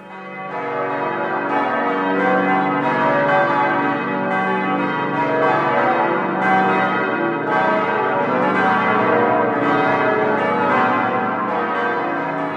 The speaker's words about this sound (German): Ich finde es immer wieder schön, wenn ich diese Glocken höre. Und habt ihr eine Idee, welche es sind? Das waren die Glocken von St. Marien.